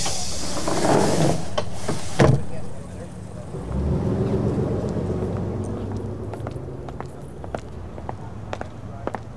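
Train doors close with a loud pneumatic hiss that ends in a solid thud, followed by the low, steady rumble of the carriage pulling away and a few faint clicks.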